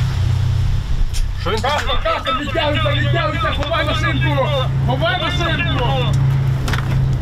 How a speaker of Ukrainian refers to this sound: на фоні працює танк, зараз його важко побачити, тут зав'язався такий доволі серйозний бій.